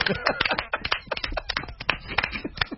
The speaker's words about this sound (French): On applaudit encore une fois.